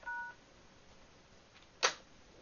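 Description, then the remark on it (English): A brief dual-pitched telephone tone sounds at the start after a phone call is hung up, then a short sharp click or burst of line noise follows over a quiet hiss; no one speaks. “Doesn't want to hang up. No, I hung up.”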